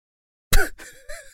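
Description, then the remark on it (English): A single sneeze bursts out of silence, a sharp, loud, noisy blast with a voiced edge, followed by a softer breathy trail and a brief murmur. “Gesundheit.”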